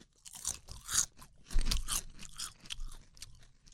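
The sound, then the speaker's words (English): Crunchy chips are bitten and chewed, giving a run of sharp, crackly crunches in irregular bursts with a heavier bite near the middle. Nobody speaks. “Okay, we're all going to take a bite of chip here.”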